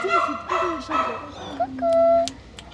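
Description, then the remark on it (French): A dog yips and barks several times in quick succession, then lets out a longer, drawn-out high whine before going quiet. “T'as peur des chiens?”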